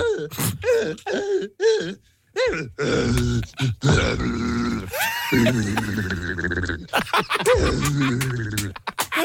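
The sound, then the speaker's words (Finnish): A Suomirap Radio listener vocally imitates a panda's call with a run of gruff, throaty grunts and bleating, groaning cries, some rising and falling in pitch, fairly loud and without speech. “No, tältä kuulostaa panda Suomirap Radion kuuntelijoiden mukaan.”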